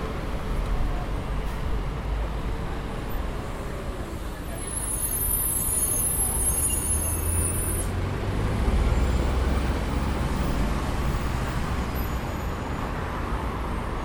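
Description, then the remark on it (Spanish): Dense street traffic at the Cabildo and Juramento intersection on a Tuesday at 6 p.m., with city buses revving and accelerating, a steady loud engine rumble reaching about 75 decibels, higher-pitched background sounds reaching 81-82 decibels, and a high brake squeal cutting in briefly midway. “Cuando el ruido de acelerar de los colectivos llega a 75 decibeles, los sonidos agudos que hay como en un segundo plano, en realidad tienen más volumen aún.”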